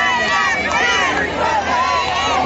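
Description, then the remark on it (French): A dense, steady murmur of many voices from a big outdoor crowd waiting for a big reveal, overlapping chatter blending into a continuous hubbub with no single voice standing out. “Any minute now, the big reveal. Crowd is big.”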